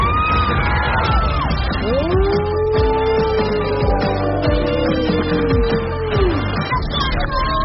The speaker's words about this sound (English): They're cheering you on.